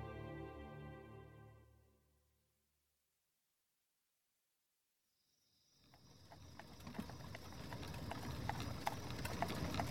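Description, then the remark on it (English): Horse hooves clip-clop steadily along a path high in the hills south of Saltillo as Ben McCullough and the Rangers ride on a cold February night in 1847, after a fading low tone and a brief silence, with a constant high-pitched chirring, like crickets, in the background. “On a cold February night in 1847, Ben McCullough and the Rangers reined in their horses on a path high in the hills south of Saltillo.”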